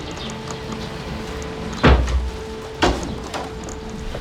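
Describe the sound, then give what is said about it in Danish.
Two solid knocks on a door, about a second apart, loud against a steady low hum, with no one talking. “Pludselig banker det på døren.”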